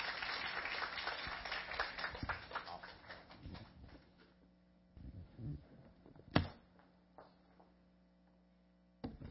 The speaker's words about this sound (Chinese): 我们拍手欢迎他。